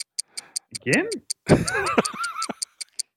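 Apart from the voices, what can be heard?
ticking clock sound effect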